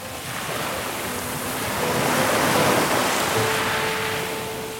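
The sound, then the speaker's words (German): Sea waves break and wash steadily onto a secluded beach, a broad continuous roar that swells gently toward the middle, with faint tonal hums in the background and no voices. “Es ist abgeschieden, Ruhe und nur noch Meeresrauschen.”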